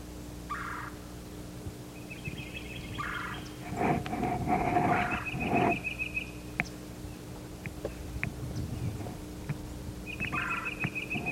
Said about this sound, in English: the yellow-throated warbler singing?